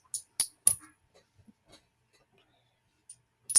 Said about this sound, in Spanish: Son el sonido de las monedas. Y bueno, pues estas son las monedas.